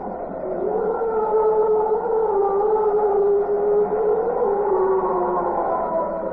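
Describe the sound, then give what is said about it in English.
Wind howls in a chimney with a steady, hollow moan that slowly rises and falls in pitch, sustained and fairly loud throughout with no voices over it. “That's the classic sound of wind howling in the chimney.”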